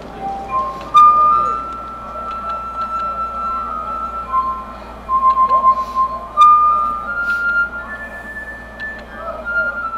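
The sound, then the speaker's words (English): A man plays a glass harmonica on simple glasses of water, ringing out in sustained, pure tones that glide from note to note in a slow melody, over a low murmur of background noise. “You'd be amazed at the range of tunes and notes that he can get with simple glasses of water.”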